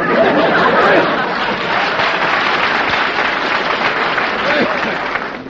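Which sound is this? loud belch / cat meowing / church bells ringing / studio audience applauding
studio audience applauding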